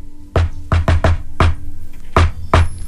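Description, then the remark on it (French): Seven sharp knocks on a door in the familiar 'shave and a haircut, two bits' pattern: a quick burst of five, a pause, then two final raps. Loud, hollow, and with no one speaking. “Parce que quand on cogne à la porte quelque part, là, c'est à peu près toujours ça qu'on utilise.”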